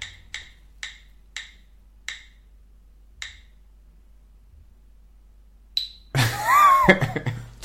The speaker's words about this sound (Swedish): Då kommer personen. Då hör man på ljudet att det är en litet annat hjul här.